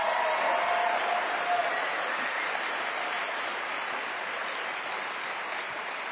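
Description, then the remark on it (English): An audience applauding steadily, a dense, even wash of many hands clapping at constant loudness for the full six seconds, with no voices rising above it. “You're applauding God and you're applauding yourselves, because I take zero credit in any of that.”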